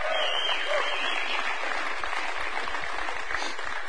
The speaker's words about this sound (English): We're good? All right, give the band a big round of applause.